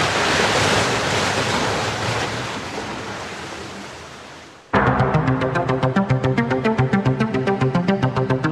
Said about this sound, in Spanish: Mientras, las olas siguen castigando incesantes los roqueríos bajo el Muelle de las Almas.